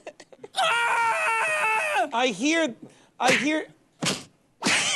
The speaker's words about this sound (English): No, because you didn't Google yelling with punch sound effects. You just Googled punching sound effects.